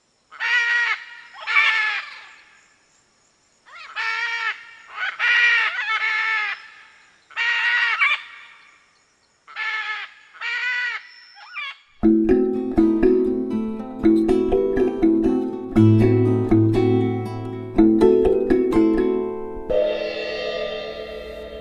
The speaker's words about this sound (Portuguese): As araras também são conhecidas por seus cantos estridentes. Vamos ouvir de novo?